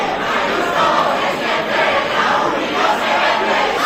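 A dense crowd at a university event honoring Madrid regional president Isabel Díaz Ayuso roars continuously, shouting both for and against her. Many voices shout over one another in a loud, steady wall of sound with slight surges, no single voice standing out.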